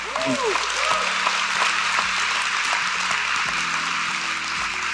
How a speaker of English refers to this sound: You're going to wish you'd held your applause when I say this next thing.